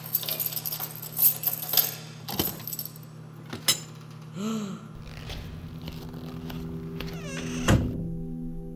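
Keys jangle in a series of bright metallic rattles, followed by clicks and a solid thunk as an apartment door lock is worked open with the keys, with a faint steady hum underneath and no talking.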